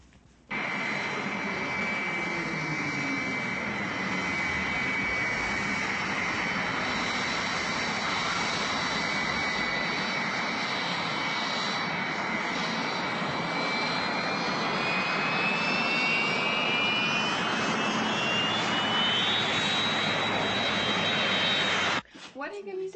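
A jet aircraft screaming overhead roars loudly and steadily for about twenty seconds, a piercing high whine riding over the rumble and climbing in pitch before the noise cuts off abruptly.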